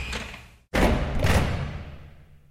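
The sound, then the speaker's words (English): A massive, thick old wooden door with a heavy old lock swings forward and screeches open: a short scrape, a brief pause, then a louder, rough groan with a low rumble that gradually fades. No voices. “A thick old door swung forward with a screech.”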